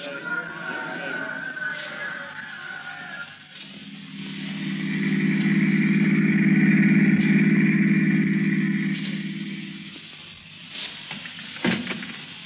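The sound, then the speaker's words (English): A car engine runs with a steady low hum, swelling louder through the middle before easing off again, over a faint background murmur. “I've got the car outside.”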